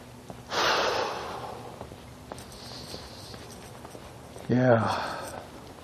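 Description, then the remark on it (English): A tired person yawns, breathy: a long airy intake of breath followed by a short voiced groan-like exhale that slides downward in pitch, with nobody speaking. “I am tired, I'm yawning.”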